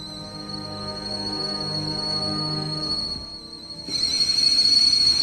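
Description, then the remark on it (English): A green enamel kettle on the boil on a lit gas stove in a kitchen gives a steady, shrill high whistle over a low rumbling hum, then bursts louder with hissing, sputtering steam as it steams furiously and spits out boiling water for the last second or so. “the kettle is already steaming furiously and spitting out boiling water.”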